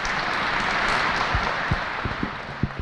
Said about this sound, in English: And I think you'd all agree that was absolutely fantastic. And we might as well give our musicians another round of applause because they absolutely deserve it.